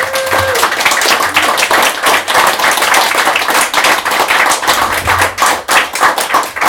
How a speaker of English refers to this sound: So that was the end of the open mic. Thank you so much, everybody. A big round of applause to yourselves.